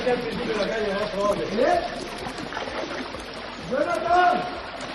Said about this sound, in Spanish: Preocupación por barrancos que han vuelto a llevar mucha agua. Así bajaba, por ejemplo, con esta potencia en Picassent.